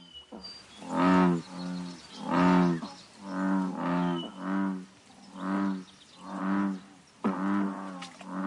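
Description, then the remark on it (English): Woodhouse's toads give a run of about eight loud, nasal, bleating waahs in steady succession, each call short and buzzy, with no one talking. “How about Woodhouse's toad? She's a great insect eater.”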